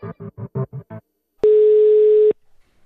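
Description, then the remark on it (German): While a call is being placed, a telephone line sounds six quick, evenly spaced tones, then after a pause a steady, loud dial tone holds for about a second before cutting off. No one speaks. “Mein Gefühl war eine Panik, weil ich dachte, ich muss jetzt richtig schnell da irgendjemanden ans Telefon kriegen und mit dem telefonieren.”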